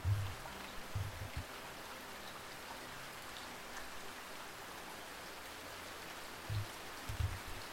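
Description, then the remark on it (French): Steady rain pattering on a roof, a soft continuous hiss of drops with a few low, dull thumps near the start and end. No voices, just the even wash of rainfall. “Imaginez à présent le parcours d'une goutte de pluie, en commençant par le nuage de pluie qui l'a vu naître, jusqu'à ce qu'elle tombe sur le toit de votre immeuble ou de votre maison.”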